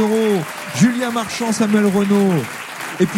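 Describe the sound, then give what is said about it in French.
Steady audience applause on a France Inter radio quiz for a contestant who answered the banco question, crackling while a man speaks clearly over it, the clapping continuing as a dense wash beneath his voice throughout. “Vous applaudit. Bravo pour ce banco,”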